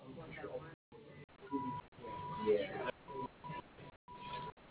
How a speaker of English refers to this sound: in order to better serve you, please use your touch-tone phone to enter your account number, followed by the pound sign.